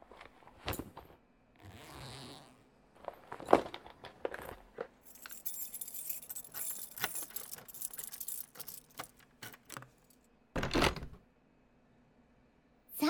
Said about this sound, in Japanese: ここが私の家です。今玄関のドア開けますね。